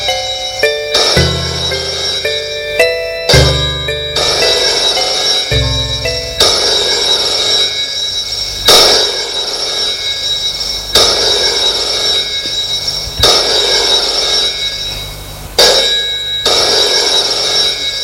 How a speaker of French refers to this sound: Le téléphone sonne.